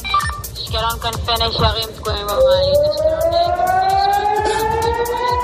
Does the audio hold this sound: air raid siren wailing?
yes